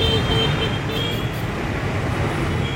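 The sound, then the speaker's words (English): Steady street traffic hum with engine drone from scooters passing, continuous and fairly loud, with faint high-pitched tonal whines riding over the low rumble. “Scooters going by.”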